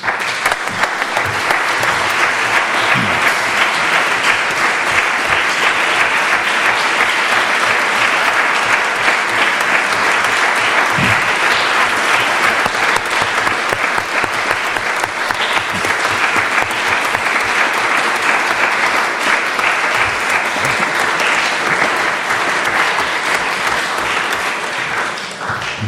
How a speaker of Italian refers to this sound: Direi applausi meritatissimi. Grazie. All'autore e al libro sulla fiducia, non avendolo ancora letto, ma avendolo solo sentito magnificare.